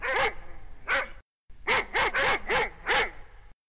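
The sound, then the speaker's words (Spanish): A dog barks sharply at night after detecting movement, two barks, a short pause, then a quicker run of five more, loud and alone with no voices. “Rufo era su perro. Había anochecido y cuando dormían, Rufo detectó movimiento.”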